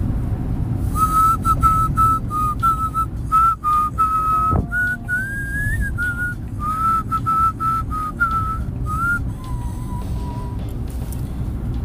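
Someone whistles a slow, tuneful song melody, clear and close, carried over a steady low rumble like traffic or an engine in the background; no one speaks.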